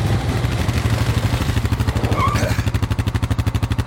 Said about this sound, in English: I think my engine's too loud. It's your engine. Turn off your engine. I don't know how to turn off the engine.